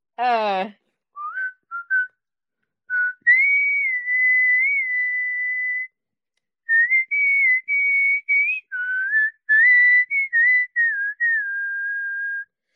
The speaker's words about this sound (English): Whistle any song that make you feel comfortable.